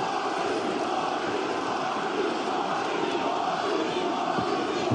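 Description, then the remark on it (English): A huge All Elite Wrestling arena crowd roars in a sustained, dense wall of cheering and shouting as Jeff Hardy arrives, loud and steady throughout with no pauses. “This crowd has had an out-of-body experience just like we have.”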